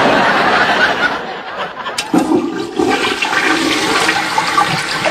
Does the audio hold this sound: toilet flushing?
yes